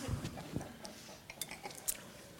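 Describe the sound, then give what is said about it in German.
A few light glass clinks in a toast, spaced irregularly and fairly quiet, with soft thumps and small tabletop clatter. No one speaks. “Haben wir schon angestoßen?”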